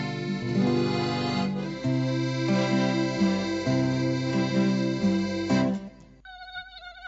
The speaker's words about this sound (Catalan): Compte, el mosquit tigre ja arriba.